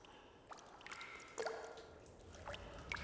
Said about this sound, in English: In an empty parking garage, water drips into standing pools.